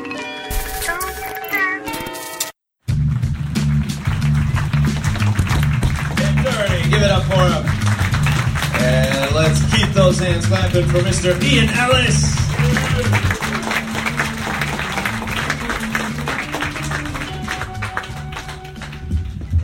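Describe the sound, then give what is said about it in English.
A crowd claps and applauds steadily, with dense overlapping hand claps filling the whole stretch while voices talk and cheer faintly underneath. “Hands clapping”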